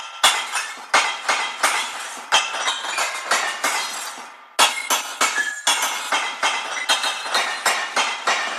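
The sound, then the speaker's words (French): Glass packaging, bottles and jars, being sorted for recycling clinks and clatters together in a rapid, uneven stream of bright, ringing knocks, pausing only briefly midway before the jangling resumes. No one speaks. “En triant nos emballages en verre, on économise de l'énergie, du sable, du calcaire.”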